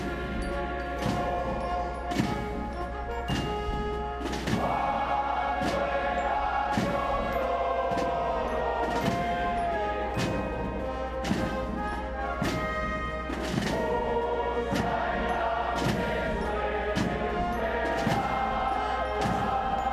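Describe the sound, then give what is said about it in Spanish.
The military funeral hymn 'Cuando la muerte nos alcanza' plays steadily, with a sustained, harmonized band melody over regular, evenly spaced drum beats. It stays full and loud for the whole stretch, with no talking. “está sonando Cuando la muerte nos alcanza. Vamos a escuchar un poquito y ahora explicamos.”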